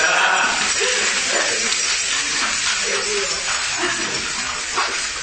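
A big bunch of keys is shaken steadily to make a little music, producing a dense, bright metallic jingle that continues for about five seconds at an even loudness, with faint murmuring voices underneath.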